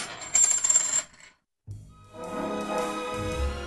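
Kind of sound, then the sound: sound effect, coins clinking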